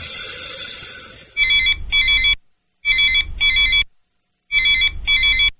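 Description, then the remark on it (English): A telephone rings in three bursts, each a pair of quick electronic trills with short pauses between, loud, following a brief stretch of busy background noise, amid a flood of phone calls from all parts of Portland. “We're being flooded with phone calls from all parts of the city.”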